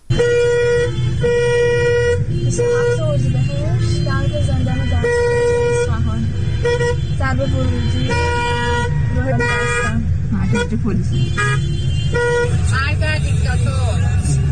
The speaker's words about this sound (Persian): ورودی زندان بستن نمیذارن کسی سمت زندان بره، با ماشین بستن ورودی زندان. فقط ترافیک جلوی زندان دستگرد رو نگاه کنید، تازه هنوز اینجا نرسیده به زندانه.